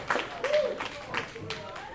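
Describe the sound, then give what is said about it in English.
An audience claps and cheers for a comedian, a steady wash of applause with some whoops and voices mixed in, moderately loud throughout. “Keep that energy up. Get that applause up.”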